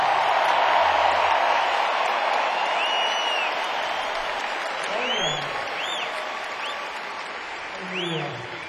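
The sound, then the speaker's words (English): A concert crowd on opening night applauds the show's crew steadily in a dense, sustained wash of clapping, with scattered whoops and whistles rising above it and a few voices calling out. “Let's hear it for the best crew on the planet.”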